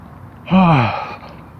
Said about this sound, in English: Yawn.